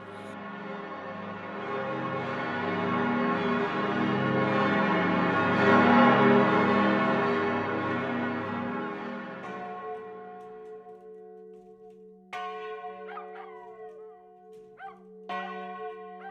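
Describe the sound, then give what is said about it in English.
A huge cathedral bell, newly cast using molten material from an older bell, tolls in a deep, dense wash of ringing overtones. The hum fades and lingers, then the bell is struck again twice, each stroke blooming loud before slowly decaying. “So the one that we're hearing now is the new Pomeran, but it has some original, let's say, ingredient material from the old Pomeran from way back.”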